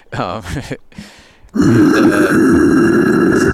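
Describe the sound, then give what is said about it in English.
Someone throwing up: a loud, strained gagging groan, a brief breathy pause, then a sudden harsh, sustained retching gush that stays loud until the end. “Someone just threw up.”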